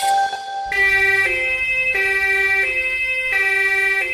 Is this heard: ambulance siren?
yes